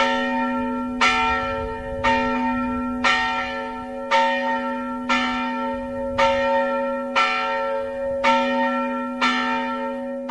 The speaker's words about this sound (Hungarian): Ami nem változott az évek múlásával, hogy az unitárius templom harangja ma is hívja a maroknyi hívet az istentiszteleti alkalmakra.